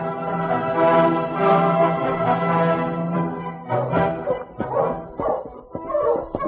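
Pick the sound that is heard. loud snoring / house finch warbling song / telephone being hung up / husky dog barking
husky dog barking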